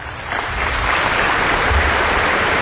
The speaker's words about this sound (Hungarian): Öröm tapsa a hegyen völgyön.